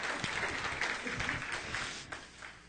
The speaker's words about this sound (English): And he was the catcher. That was my son, by the way, for those who watch the... Round of applause.